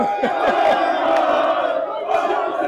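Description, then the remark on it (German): A large crowd of Borussia Dortmund football fans roars and cheers, celebrating the club's historic qualification for the Champions League final. It is a dense, sustained wall of shouting voices with a few sharper yells rising above the din. “Die Verursacher dieser Jubelarien sind inzwischen auch wieder zurück in Dortmund.”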